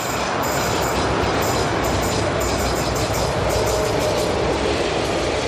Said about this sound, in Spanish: Veinte años después, desde la calle Téllez se escucha el sonido de los trenes de cercanías al pasar.